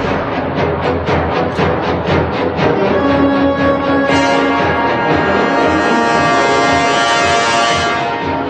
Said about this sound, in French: vous cherchez une musique de film qui fait peur